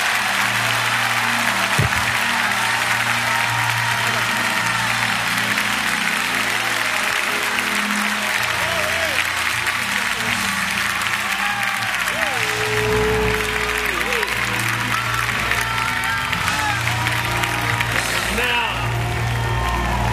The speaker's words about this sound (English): Now unjoin those hands and clap your hands and praise the Lord. Everybody!